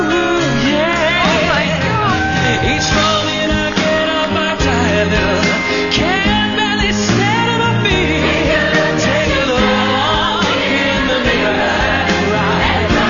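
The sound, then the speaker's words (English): A singer sings a soaring, sustained melody while playing keyboard in a live performance with a singer before a small crowd, the music full and continuous at a steady, loud level throughout. “Here he is performing with … in the small crowd at wherever this took place.”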